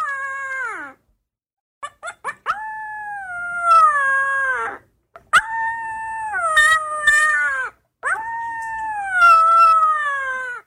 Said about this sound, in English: How do you not love this? It's a puppy. He looks like he's about 3 or 4 weeks old. He's just figuring out how to howl.